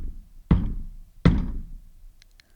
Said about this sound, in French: Elle traverse un pont de pierre et frappe timidement la porte.